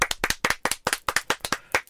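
Quick, sharp hand claps in an uneven rapid rhythm, around a dozen over two seconds, like a small group applauding loudly with no talking.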